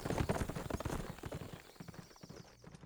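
Several horses' hooves clip-clop in a steady, overlapping rhythm, moderately loud, as three riders, The Snake, N/N and 44 Hands, ride west, tapering slightly toward the end with no voices present.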